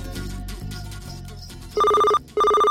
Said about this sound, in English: And that's when the phone rang.